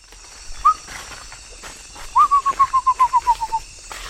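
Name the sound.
bird singing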